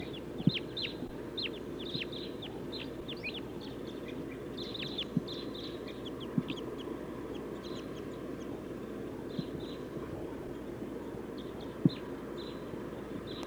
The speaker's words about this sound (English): They took off. Five, seven crossbills. Or maybe nine. They're circling. coming back. 1, 2, 3, 4, 5, 6, 7, 8. 8 birds.